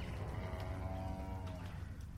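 A cow at the University of Bristol lows in a long, drawn-out moo that swells and fades over a couple of seconds, fairly loud against a steady rumbling farmyard background with no talking.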